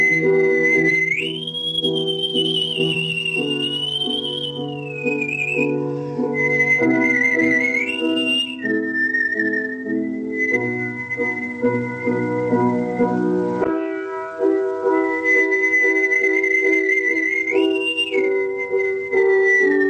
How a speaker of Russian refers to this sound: Я входил в образ, исполняя, допустим, Любашу, я проникал с ее страданиями, и свист окрашивал соответственно эмоционально. Вот как это происходило, я сам даже не могу понять.